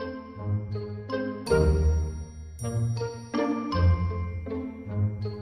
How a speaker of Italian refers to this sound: Mattino seguente di buon'ora, il campanello di casa Pistolazzi fu pigiato con tale forza e determinazione che pareva l'allarme antiaereo di Londra durante la Seconda Guerra Mondiale.